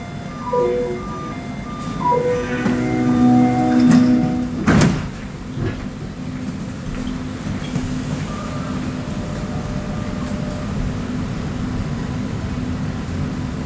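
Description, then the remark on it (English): An automated REM light metro train in Montreal, leaving Gare Centrale toward Brossard on the south shore: doors chime with a short melodic warning tone, then slide shut with a quick thump, followed by the steady low hum and rumble of the train interior. “I'm going to take the REM all the way to the south shore of Montreal.”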